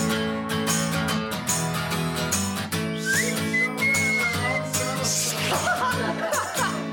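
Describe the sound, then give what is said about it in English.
A whistled melody rides over a full, busy band arrangement, its thin, sustained tones gliding above the instruments for a few seconds in the middle of the song. “Oh, that whistling part gets me every time.”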